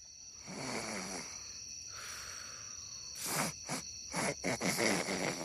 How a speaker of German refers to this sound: die noch wach lagen, hörten schon bald leises Schnarchen.